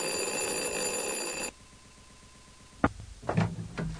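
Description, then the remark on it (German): A doorbell rings loudly and insistently in one long, unbroken buzzing peal, then cuts off abruptly, followed by quiet and a few sharp knocks or clatters. “Na, noch nicht ganz, denn am nächsten Morgen läutet es Sturm an der Türe.”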